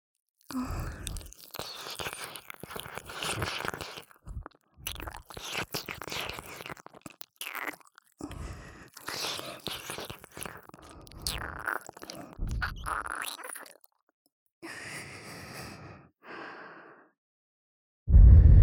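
Wet licking and nibbling mouth sounds on an ear in irregular bursts with short pauses, mixed with soft breathy gasps, ending in a brief low thump. No speech.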